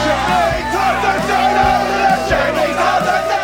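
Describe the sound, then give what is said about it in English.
A packed pub crowd of many overlapping voices, a dense indoor murmur with occasional raised shouts and cheers, steady throughout; a small group recorded over Zoom for the crowd inside the local pub in Ted Lasso. “Recording over Zoom worked well for smaller groups, like the crowds inside the local pub.”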